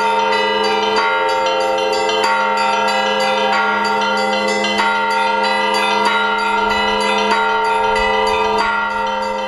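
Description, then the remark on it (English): Church bells, some old surviving bells and one cast to form the right harmony, are rung by bell ringers, ringing out loud in a steady rhythm, struck about once a second, their overlapping tones blending into a continuous, shimmering resonance with no voices. “We question Anna and Pavel, how did they become bell ringers?”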